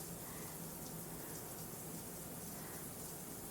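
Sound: shower water running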